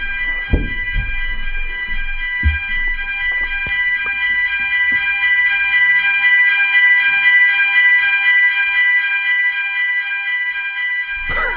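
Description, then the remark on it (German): A car alarm going off outside a hotel: a steady, shrill electronic tone that holds without a break, with a few dull thumps early on and no voices. “Hier ist gerade ein Feueralarm und ich weiß nicht, ob das das Hotel ist oder ein Auto draußen.”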